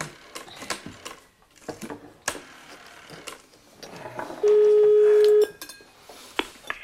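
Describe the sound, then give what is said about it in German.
A Hamburg telephone number is dialed: a quick series of sharp button clicks and knocks, then a loud steady tone for about a second, followed by a few more clicks. No one speaks. “Darf ich mal eben telefonieren?”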